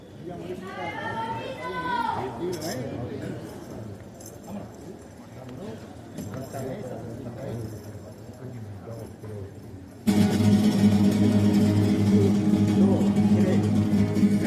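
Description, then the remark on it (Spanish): An Andalusian horse's hooves clip-clop in an uneven patter beneath crowd noise and voices, after a brief high, wavering call at the start; loud, dense music with a steady drone takes over near the end. “Su caballo andaluce, igual.”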